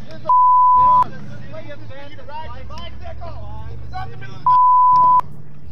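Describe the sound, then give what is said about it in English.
Two long, steady horn blasts from an angry pickup truck driver, each lasting under a second, sound loudly at the start and end, with people talking and a low engine rumble in between. “We have an angry pickup truck driver coming through.”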